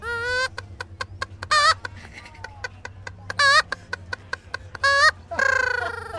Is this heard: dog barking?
no